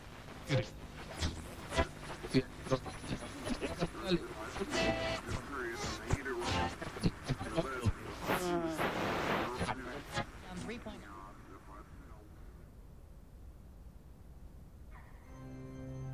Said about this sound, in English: We're getting some interference here. I'll stay on the line as long as I can.